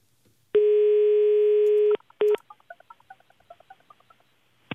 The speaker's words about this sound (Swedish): Det här är lite av en chansning, men jag tänkte att jag ska slå en signal här och kolla hur det har gått.